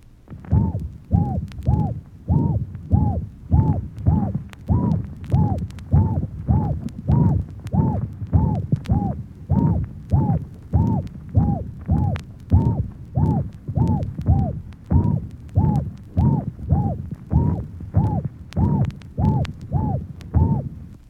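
A seagull heart murmur repeats in a steady rhythm, roughly every 0.8 seconds, each beat carrying a cooing, hoot-like musical tone over low thumping heart sounds, with no talking.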